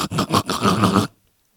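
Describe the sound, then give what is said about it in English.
Loud staccato snorting, air catching in the airway in a few choppy bursts before a rougher sustained snort that cuts off abruptly into silence. “Then staccato air stopping as if something needed urgent unplugging.”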